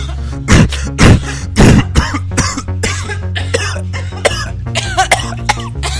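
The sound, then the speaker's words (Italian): Three loud, harsh coughs in quick succession near the start, followed by softer throat-clearing and fainter coughs over a low steady hum. “Tosse, mucchi, usate Fluifor, lo sciroppo che vi curerà.”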